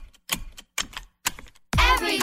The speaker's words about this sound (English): Only move when you hear the click that says they're buckled in. Never give up until they buckle up.